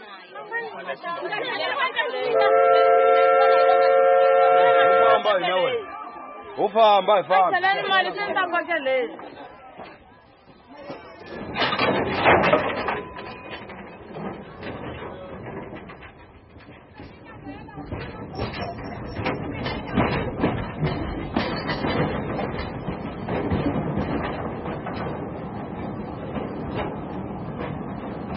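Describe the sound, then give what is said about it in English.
A steam train sounds a long, chord-like whistle, then rumbles and hisses past through the bush in Mozambique with a steady, rhythmic chuffing that continues in the open air. “I've got sounds of trains, steam trains, running through the Mozambican bush.”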